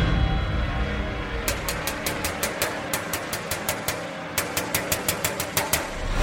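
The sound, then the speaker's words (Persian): Rapid, hard metallic banging on a storeroom door, struck very hard with a metal object: three quick bursts of sharp, ringing blows in a steady rhythm, loud over a low continuous rumble, with no voices. “یهو صدای در زدن اومد، یکی خیلی محکم با یه چیز فلزی میکوبید رو در انبار.”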